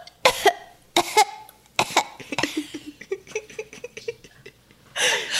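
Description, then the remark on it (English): A person performs a cough as Foley for a character in a smoky room with a peat fire, several sharp, forceful bursts with short gaps between them, followed by rough throaty noises and a final harsh exhale. “Hilarious Junior coughs. Please give us some Foley work for that.”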